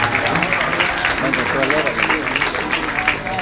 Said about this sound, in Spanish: Qué hermoso, da un aplauso al Señor. Qué lindo.